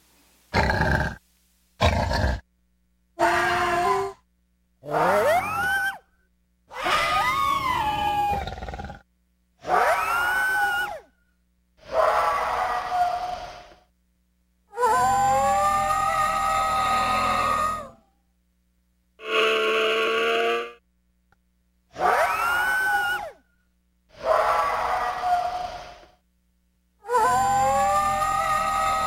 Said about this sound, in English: And hear the sounds of the Tasmanian tiger, recorded in captivity almost 100 years ago.